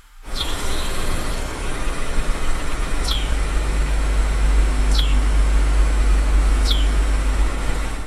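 A steady, dense low rumble of city traffic in Prague at night hums without a break, while three brief, high, falling chirps cut through at intervals. No one speaks.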